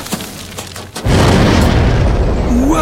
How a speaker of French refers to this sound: Il a croqué dans la porte d'escampette! Attention, ça proute! Ça va péter!